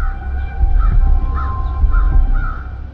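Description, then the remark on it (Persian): Several crows caw repeatedly in harsh, overlapping calls at a steady pace, loud, in the grounds in front of a hospital on an autumn afternoon, over a low outdoor rumble. “توی محوطه جلوی بیمارستان کلاغا قوقایی به راه انداختند.”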